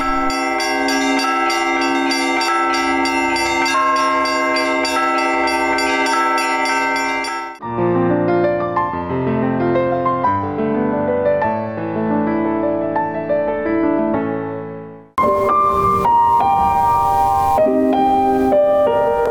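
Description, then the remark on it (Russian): Church bells from the new bell tower of the Transfiguration church, a church nearly 200 years old that is under restoration, ring out loud in layered peals with rich ringing overtones. They shift between different bell patterns in three distinct sections, with no voices. “Восстановление Преображенского храма продолжается, но уже теперь можно не только видеть купол и поднявшуюся недавно колокольню, но и слышать новый голос храма, которому почти 200 лет.”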